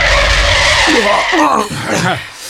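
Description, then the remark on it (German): A loud, sustained screech of brakes as a vehicle skids to a stop, its harsh squeal running throughout, with voices cutting in partway through. “Wow, tolle Bremsen.”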